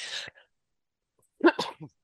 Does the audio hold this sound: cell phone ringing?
no